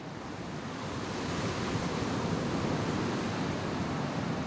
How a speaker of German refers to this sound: Wir fahren noch weiter weg, nach Berlin, ganz im Westen, ganz am Ende der Insel, direkt am Meer. Vor uns. Nichts als der Atlantik.